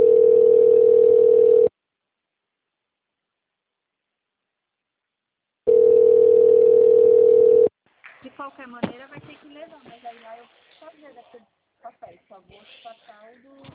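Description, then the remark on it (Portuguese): A telephone line tone sounds twice as someone checks whether a phone extension is working. Each is a loud, steady, mid-pitched hum lasting about two seconds, with a long silent gap between, followed by a person speaking. “Ixi, você quer que eu tento ver se o ramal está funcionando?”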